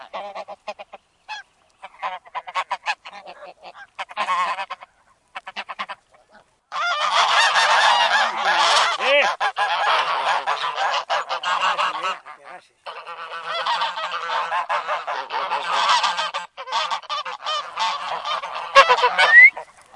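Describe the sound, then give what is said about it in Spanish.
Geese that are pairing up and biting one another honking in a noisy, overlapping chorus, starting with scattered short calls, then swelling into a dense, loud clamor of harsh nasal honks that fades briefly and surges again. “Ahora se andan haciendo pareja. Se pegan unos mordiscos, se muerden, tienen unos dientes que no ve.”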